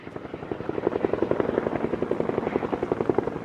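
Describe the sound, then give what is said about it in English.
Several firefighting helicopters carrying water buckets pass overhead with a steady, rapid thudding rotor chop that swells slightly and a low engine rumble underneath. They are dousing a mountain wildfire of more than 22,000 acres near the Sunlight Waters development. No one speaks. “We're up here near the Sunlight Waters development, and several helicopters are bringing in bucket loads of water, trying to douse the flames just northwest of this development.”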